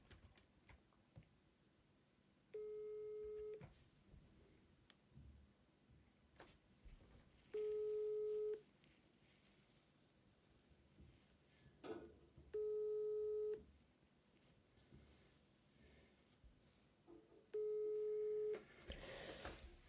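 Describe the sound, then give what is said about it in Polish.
Four steady ringback tones, each lasting about a second and repeating every five seconds, from a phone call that goes unanswered. Faint clicks and low background noise fill the gaps. “Zadzwonił do pani Urszuli.”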